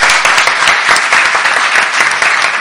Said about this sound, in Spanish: Gracias a todos por esos aplausos tan espontáneos.